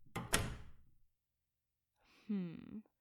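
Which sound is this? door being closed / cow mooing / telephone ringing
door being closed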